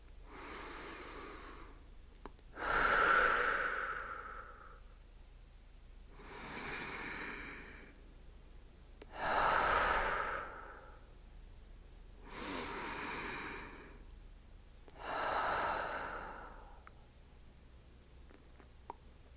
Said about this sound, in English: And now, take 3 deep breaths to let out any tension from the day.